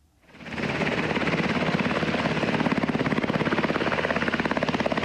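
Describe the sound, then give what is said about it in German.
Military helicopters of the ISAF international force take off and land at the Bundeswehr base in Kunduz, Afghanistan: engine and rotor swell up quickly, then hold a loud, steady roar, the blades' rapid rhythmic chop pulsing throughout. No one speaks. “Noch starten und landen am Bundeswehrstützpunkt Kunduz die Helikopter der internationalen Afghanistan-Schutztruppe ISAF.”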